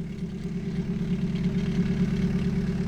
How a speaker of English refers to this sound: This is the meditative two-stroke pulse of the land train humming itself into view.